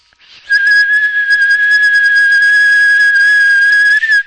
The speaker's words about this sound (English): I'll try giving a whistle in case that does any better, but it might not. Here goes.